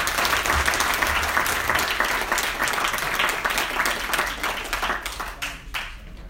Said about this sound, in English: Give him a huge round of applause.